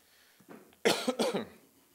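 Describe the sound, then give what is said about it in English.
Two quick, harsh coughs in close succession, loud, preceded by a soft breath or throat sound, with no talking. “Lord, I pray that you would help me to be articulate and hold back my coughing.”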